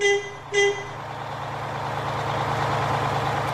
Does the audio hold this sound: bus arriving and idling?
yes